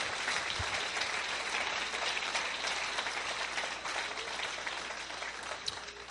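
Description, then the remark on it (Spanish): An audience breaks into sustained applause for the Lord, a dense, even wash of many hands clapping at once that holds steady for several seconds and eases only slightly toward the end. “¿Cuántos aplauden al Señor y dicen: venga tu reino?”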